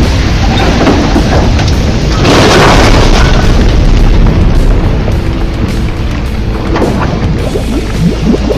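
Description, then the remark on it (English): A truck crashes through the ice of a river into the water at night: a loud, continuous roar of smashing and churning, surging into a heavy booming burst early on, then rumbling and splashing steadily until the end. “Then he heard the shattering of ice and the splash of the truck hitting the water.”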